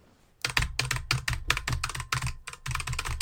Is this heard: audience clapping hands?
no